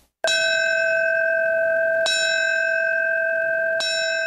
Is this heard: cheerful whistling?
no